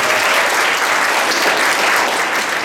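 A crowd claps steadily, a dense, sustained wash of many hands applauding at close range, loud and even throughout with no voices standing out.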